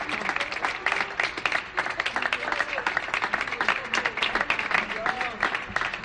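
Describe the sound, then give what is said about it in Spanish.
An audience bursts into sustained applause for first-year bachillerato students who presented a cultural agenda, during a broadcast from San Cayetano, a dense, steady wash of many hands clapping for several seconds, with faint voices mixed in beneath the clapping. “por esta agenda que nos han hecho hoy los alumnos de primer bachillerato, que yo creo que se merecen un gran aplauso de todos mis compañeros.”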